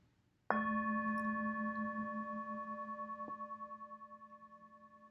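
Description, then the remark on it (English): A single bell is struck once, sending out a rich metallic tone that hums and slowly fades with a gentle wavering pulse. There is no talking, and the ringing is still sounding at the end. “May the sound of this bell penetrate deep into the cosmos.”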